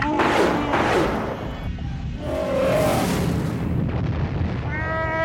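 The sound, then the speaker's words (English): Missiles fire from a spaceship and a loud explosion erupts as they score a direct hit on a destroyer, with a dense, roaring rumble that swells and sustains across several seconds, threaded with whining, high-pitched tones. “fire the Arakeet missiles”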